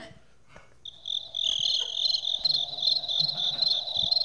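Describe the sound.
A person makes cricket noises into a microphone, a loud imitation of cricket chirping that begins abruptly after a short quiet moment, a high, shrill, buzzing trill that keeps going steadily to the end, with no talking.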